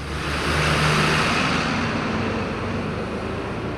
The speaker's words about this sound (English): The old yellow buses that roll up to the school's plain flat single-story building every morning come from as many as 6 school districts throughout Northern Virginia.